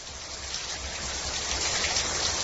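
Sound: heavy rain falling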